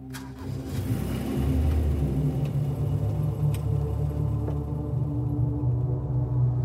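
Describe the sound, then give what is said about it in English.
A car engine turns over and settles into a steady low rumble as the vehicle, with passengers aboard, pulls away, with a few faint clicks and knocks, and no voices. “They got in the car, and we drove off.”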